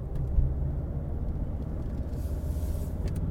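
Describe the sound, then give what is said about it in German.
A steady, low road rumble from a car cruising along the A31 motorway on the way home, a continuous droning hum of engine and tyres with no pauses and no voices. “So, jetzt sind wir auf der A31, gehen Heimat für, keine Ahnung was, 200 Kilometer oder so.”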